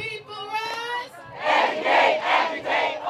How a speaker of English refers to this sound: She's leading them in chanting, "Educate, agitate, organize."